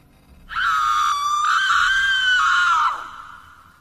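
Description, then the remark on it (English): A woman's single sustained shriek, loud and close, holding a high pitch for a couple of seconds before breaking off sharply, with no talking around it. “I suddenly heard a female shriek from somewhere close by.”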